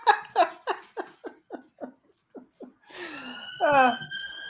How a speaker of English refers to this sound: What is going on in Freedom Day, man? Damn. That's like the third ambulance I've heard, man.